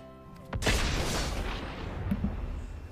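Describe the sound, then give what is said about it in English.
A sudden, loud explosion erupts after a brief quiet moment, its deep boom rumbling and slowly decaying over the next couple of seconds with crackling debris-like texture. “Okay, maybe coming out of the really positive commercial to an explosion that says main phase.”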